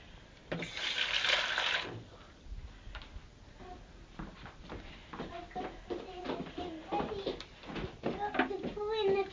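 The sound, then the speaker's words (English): A short burst of water pours into a pot near the start to rinse it out, a rushing splash lasting about a second, followed by a child and an adult talking amid light kitchen clatter. “Wait a minute, let me put some water in here now. Empty it.”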